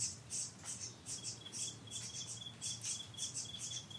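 Quick, repeated bird chirps flutter over a steady, high cricket trill in a quiet outdoor setting, with no voices. The calls are soft, overlapping in an irregular rhythm.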